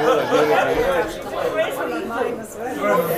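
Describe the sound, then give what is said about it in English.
Dense, overlapping chatter from many voices in the Duke pub on Duke Street, Dublin, on a Thursday evening. It fills the whole clip at a steady, fairly loud level, a continuous busy murmur with no single speaker standing out. “So this is the Duke pub in Duke Street in Dublin. Yeah, no, it's just so it's quite busy.”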